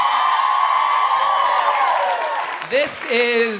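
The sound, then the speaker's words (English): A large, rowdy live audience at a live show cheers and whoops loudly and continuously, with high shrill yells rising over the roar. Near the end the noise thins slightly as a few louder voices stand out. “The rowdiness and the fervor of this crowd is unparalleled in all the 5 shows we've done so far.”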